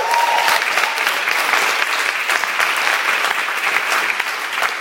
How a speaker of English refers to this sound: And so I brought some young guys here, and they're going to perform for you, but I'm also going to interview them as well. So can you give them a little round of applause?